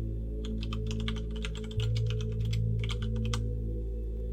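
Rapid clicking of keys on a computer keyboard as someone searches on Google during a bus ride toward Askersund, in quick irregular bursts over a steady low hum, with a brief pause midway before the typing resumes.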